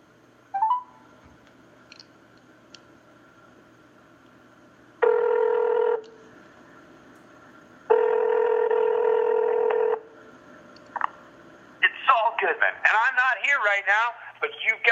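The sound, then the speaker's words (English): A phone call to the number on a business card rings out over a speakerphone: two long, steady ringback tones separated by a pause, preceded by a faint click and followed by a burst of garbled, warbling audio as the line connects. “And do you want me to call it and play it? If you can do it quick. Well, I can do it as quick as my phone pulls up.”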